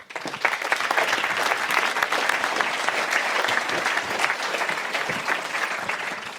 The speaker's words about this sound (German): Begrüßen Sie bitte mit einem herzlichen Applaus Duri Bonin und Patrick Guidon.